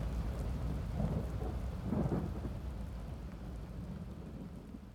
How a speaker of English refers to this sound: Nathair laughs as thunder crashes and more lightning strikes around him.